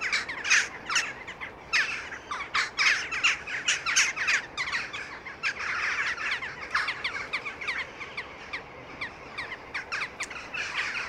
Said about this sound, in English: Let's listen to some of the jackdaw calls. I find it quite electronic. I think it's cool. Let's hear it.